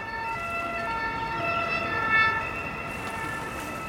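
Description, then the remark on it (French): An emergency siren wails steadily, its bright tones ringing loud over a rumbling background, with no voices present. “Tonalité naturelle brusquement couverte par un stress dominant de sirène en détresse.”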